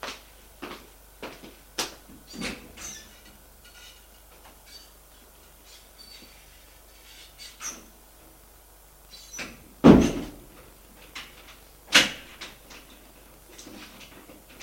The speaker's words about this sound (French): Il entend qu'elle ferme la porte à clé.